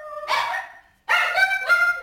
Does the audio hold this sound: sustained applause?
no